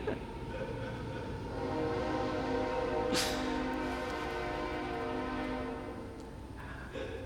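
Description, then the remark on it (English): A train rolls by with a low, steady rumble while its horn sounds in long, sustained blasts; a sharp metallic clank cuts through midway, and the whole pass stays fairly loud. “In case you all have missed a train, here's the train.”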